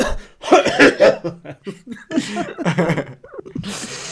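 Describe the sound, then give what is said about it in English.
A voice imitates a coughing fit: a rapid run of harsh, breathy hacking bursts, loud and irregular, with a few vocal catches and a final noisy exhale. “the cameraman started having a coughing fit”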